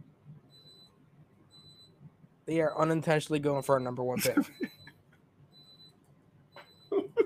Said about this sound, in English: So, whose alarm is that? That's you, yo. That's for sure. I even took my headphones off. I was like, what the fuck is that?